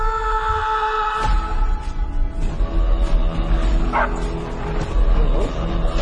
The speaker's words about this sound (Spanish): Perro, escucha el perro